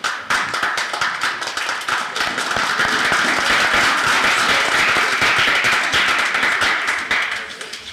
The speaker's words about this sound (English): That round of applause is for all the students and for their teacher and teachers.